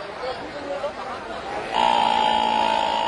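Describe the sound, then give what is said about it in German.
A crowd of spectators murmurs at a riverbank where pilgrims bathe, then an elephant led by its mahout trumpets: a loud, sustained, brassy blare at a steady high pitch that holds to the end over the chatter. “Plötzlich schreckt lautes Trompeten die Zuschauer auf.”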